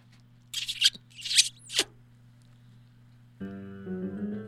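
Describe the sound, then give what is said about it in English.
A chair scrapes in three short, harsh rubbing bursts over a steady low hum, the last one sliding downward; after a pause, music begins. “Tom, just let me move this chair.”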